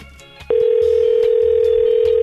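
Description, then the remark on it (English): A phone line ringing on an outgoing call: after a brief quiet moment, a loud, steady electronic ringback tone starts and holds continuously to the end, with no voices. “Oh, she better answer. This is the last one.”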